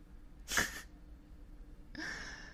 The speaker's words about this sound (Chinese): 哭什么哭啊，你这样哭的样子可真丑啊，刚才你的那股嚣张劲儿呢？